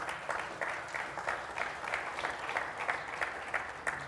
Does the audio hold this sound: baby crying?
no